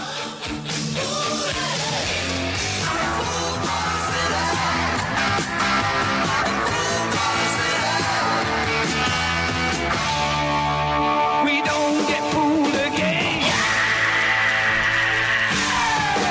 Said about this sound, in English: What a blood-curdling scream that turned out to be. Oh, my God.